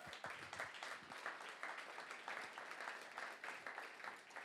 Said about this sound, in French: Alors on te remercie d'avance et on t'applaudit d'avance pour ce que tu vas faire. Merci Seigneur.